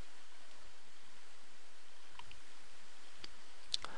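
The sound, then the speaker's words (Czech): A couple of quick, faint mouse clicks near the end, close together like a double-click on a table column in a WPF application, against a quiet background hiss. No one speaks. “Všimněte si, první sloupeček, pokud dvakrát kliknu, mi nejde editovat, druhý sloupeček mi opět nejde editovat a teprve až třetí sloupeček mi editovat jde.”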